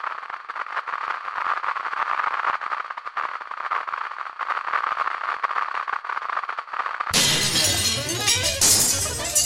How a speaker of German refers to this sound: Die Steine, die sie geworfen hatte. Das klirrende Glas. Die fallenden Scherben erschreckten die Menge.